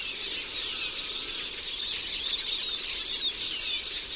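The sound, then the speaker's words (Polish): A Eurasian siskin sings a continuous, high-pitched twittering phrase with drawn-out, slightly wheezy, crackling notes, steady in loudness throughout, with no voices present. “Wprawne ucho z tej kakofonii dźwięków wyłowi także frazy nieco bardziej przeciągłe i lekko trzeszczące, od których wzięła się nazwa tego gatunku – czyżyk.”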